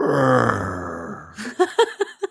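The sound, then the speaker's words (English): A person imitates the long, low, droning groan their 5-year-old dog Bueller makes when petted while lying down, lasting over a second, followed by a few short, breathy laughs in quick bursts. “My dog has started doing this thing. Like when he's laying down and I pet him, he goes.”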